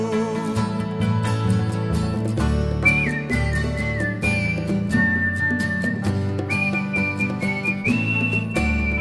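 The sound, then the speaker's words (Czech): A clear whistled melody in held, stepping notes imitates a blackbird's song, sounding steadily over a full instrumental accompaniment with a strong bass and rhythmic backing. “Kos se směje a kos si hvízdá.”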